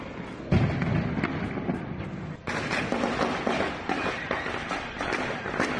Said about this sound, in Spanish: Con un helicóptero robado de la policía científica, con un mensaje que decía por la libertad y pidiendo la renuncia de Nicolás Maduro. No solo han sobrevolado, también ha habido disparos.